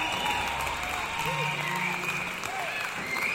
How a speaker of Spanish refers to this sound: ¿Qué sería de nosotros sin ellos en estos momentos? Un aplauso para ellos.